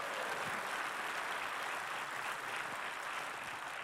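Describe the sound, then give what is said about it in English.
A crowd claps steadily for several seconds as a hand clap offering to God, a dense, even wash of many hands with no pauses or rhythm, holding at a fairly loud level throughout. “Come on, let's give God a good hand clap offering today.”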